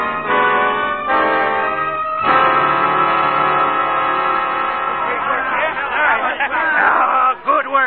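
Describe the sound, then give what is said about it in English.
A crowd gathered to meet an arriving train, chattering and calling out at once, a loud, busy babble of overlapping voices, with a steady, sustained tonal drone holding underneath through the first half. “Look, Tom, the whole crowd's here to meet us.”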